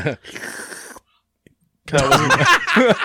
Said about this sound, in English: Yeah, instead of the DJ sounds and the ice, I went with slurping of soup.